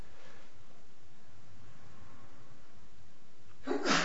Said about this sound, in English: Yes. That was a very opportune sneeze. Thank you.